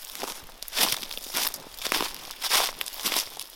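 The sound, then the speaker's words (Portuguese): Steady footsteps walking in a forest crunch through dry leaves in a regular walking rhythm of soft rustling crunches, with no voices. “Não aguentando a agonia, Tarobá foi andar na floresta como de costume, tentando aliviar seus pensamentos.”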